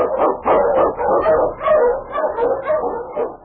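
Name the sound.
husky sled dog barking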